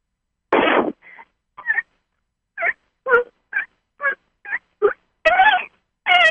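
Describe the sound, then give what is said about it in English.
A person imitates dolphin chirps with a burst of breathy noise followed by a quick series of short, squeaky, high-pitched vocal chirps, ending in two longer warbling squeals. “That could be a dolphin sound, because dolphins, they have different tones and different sounds.”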